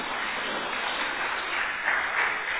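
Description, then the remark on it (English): A crowd claps steadily for a few seconds, a dense, even patter of many hands with slight swells near the end and no voices. “That's fine, you can clap.”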